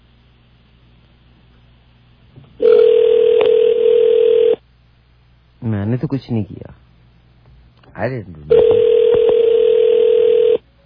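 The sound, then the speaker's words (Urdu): A loud, steady telephone dial tone sounds after the line disconnects, droning for about two seconds, then returning for another two after a brief spoken phrase in between. “ٹیلی phone کی line disconnect ہو گئی ہماری.”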